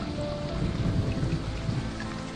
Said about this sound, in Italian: E difatti non va via tanto, togne lampi su per le cime e scomincia a scravazzà e scraventà sulle berline.